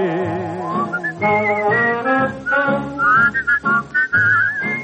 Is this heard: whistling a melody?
yes